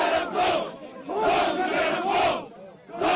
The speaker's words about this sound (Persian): نواز شریف هنگام ورود به فرودگاه با مردم دست داد و هواداران او فریاد می زدند که مشرف برو و زنده باد نواز شریف.